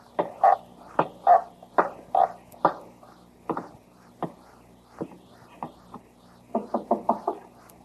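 Loud knocking on a store's door around midnight, a steady series of heavy raps that slows to a few scattered knocks, then ends in a quick, urgent burst of five. No voices.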